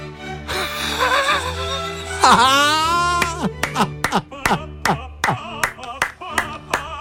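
A single person claps for themselves about ten times in a steady, sharp rhythm, after a brief wavering tonal vocal sound at the start.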